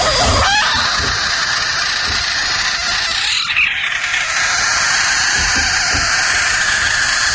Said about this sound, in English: Oh, frog is right.